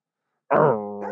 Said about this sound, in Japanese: 両方か犬鳴きが聞こえてきてますけど。 すごい、あの、サラウンド音声。